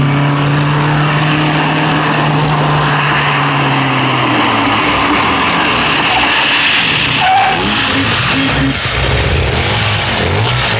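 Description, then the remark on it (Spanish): Loud roaring engines fill the scene as a heavy black limousine brakes to a stop in front of the Hotel Mesopotamia, its engine pitch sliding downward over the first few seconds, with the continuous rumbling of the surrounding motorcycles and tire noise around it. “Una negra y pesada limusina a la que rodean motocicletas estruendosas se detiene frente al Hotel Mesopotamia.”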